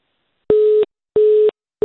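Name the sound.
phone busy tone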